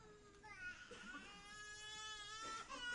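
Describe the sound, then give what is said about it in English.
A person cries in a drawn-out, high wailing sob that holds steady for a few seconds, fairly loud, with no talking over it. “I made someone cry. Peter Singer made them cry.”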